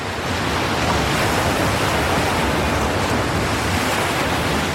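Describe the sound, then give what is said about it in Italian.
A steady, loud rush of sea water churning past a ship setting off again at sea under clear skies, over water 600 metres deep, with a constant windy roar and no distinct breaks or voices throughout. “Finalmente la nave è ripartita.”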